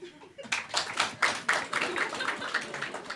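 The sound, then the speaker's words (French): An audience claps for a few seconds to answer, by applause, who drinks at noon: a dense patter of hand claps with a rough, fairly regular pulse, steady in loudness throughout. “Qui, par applaudissement, boit à midi?”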